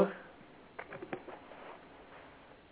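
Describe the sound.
Soft, quick patter of a Mystic Dreamer tarot deck being shuffled by a woman during a reading, a short burst of light papery clicks in the middle, quiet, after a brief voice fragment at the start.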